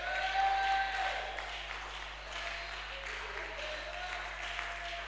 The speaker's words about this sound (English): Establish this by a shout and a clap. Establish it. Establish it in your life.